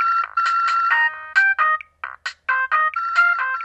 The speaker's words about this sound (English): That crazy cell phone ringtone?